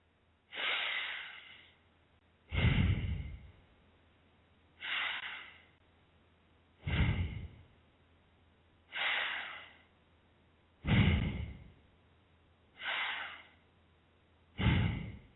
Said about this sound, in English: The key to doing long deep breathing is to fill the lungs entirely on the inhalation. and then empty them completely on the exhalation. The diaphragm is kept relaxed and the stomach expands out on the inhalation and back in on the exhalation.